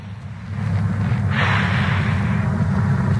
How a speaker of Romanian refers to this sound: Respirații puternice pe gură. Asta e înregistrare cu el. El respiră.